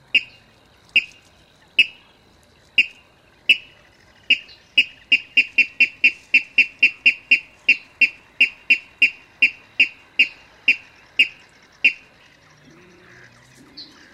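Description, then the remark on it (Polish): A bird gives its two-syllable territorial call: loud, sharp squealing calls in a long series, spaced out at first, then quickening into a rapid run before slowing again, clear with no one talking. “To donośny kwik, przechodzący w słabosłyszalny, opadający gwizd.”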